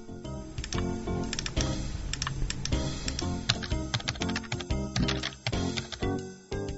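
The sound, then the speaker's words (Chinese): Rapid, irregular clacking of fingers typing on a computer keyboard, steady for several seconds, with short bursts and brief pauses between keystrokes and no voices. “放学后的乐子少了许多，即使坐在电脑前也只能敲敲键盘打打字。”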